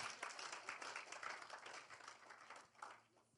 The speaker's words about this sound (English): Clap for the Lord Jesus.